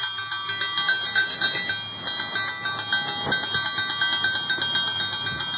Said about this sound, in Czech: Veliki školski čas, tradicionalna mirovna manifestacija koja se održava u Šumaricama kod spomenika streljanim đacima i profesorima, i ove jeseni počela je zvonjavom školskog zvona.